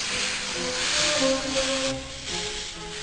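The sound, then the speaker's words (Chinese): A steam locomotive, trailing white smoke, hisses steadily as it slowly pulls up to a station platform: a dense wash of escaping steam with faint whining metallic tones layered underneath, fairly loud and continuous for the whole stretch with no voices. “很快的，那吐着白烟的火车缓缓地靠近月台。”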